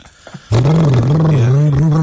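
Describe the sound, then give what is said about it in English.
After a brief quiet moment, someone vocally imitates a car engine with a loud, sustained, throaty brum that holds a low, steady pitch with slight wavering for about a second and a half. “Can you make us sound like a car?”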